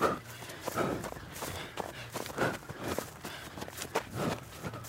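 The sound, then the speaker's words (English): Running footsteps at about an 8-minute pace land in a quick, steady rhythm of soft thuds, about two per second, with audible rhythmic breathing mixed in and no talking. “I know the sound that my feet, about what an 8-minute pace would be, how my feet would sound.”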